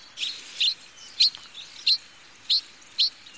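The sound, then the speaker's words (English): A Pallas's reed bunting gives about six short, high chirping calls at a fairly even, unhurried pace, standing out clearly above a steady background hiss of rain. “Call is very distinctive in Pallas's.”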